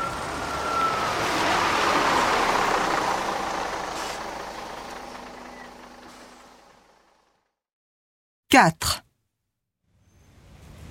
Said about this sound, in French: Il y a un bus qui va à la plage? Oui. Voilà, il arrive.